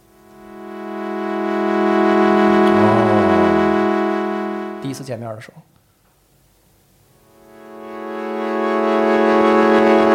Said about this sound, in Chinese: 但是它不是这么给出来的，它是给了一个特别长的 attack 和特别长 dk， 咱刚才说那个摔，就是 attack 和 dk 都特别长，然后另外呢，在它的那个滤波上加一个抖动的一个，就是切掉的那个频率是一个来回颤动的这个声音，所以刚才特别无聊的这两个块状的和弦变成这个样子，实际电影里大概就是这么一个声音。